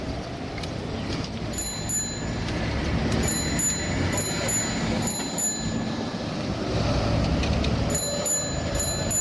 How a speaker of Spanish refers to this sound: Buscáis el sonido del timbre. Para que se sepa. El sonido de la ciudad.